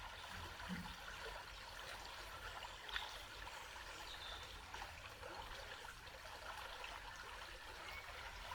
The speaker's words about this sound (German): Und es existiert immer mehr und mehr nur dieser Moment und das Plätschern des Wassers. Und dieses Plätschern, Fließen breitet sich nun immer mehr aus, über deinen Körper hinaus.